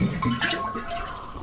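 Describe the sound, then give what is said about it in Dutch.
Water gurgles and pours steadily from an office water cooler, a fairly loud bubbling rush lasting a second or so, with no voices. “The office water cooler before HD radio.”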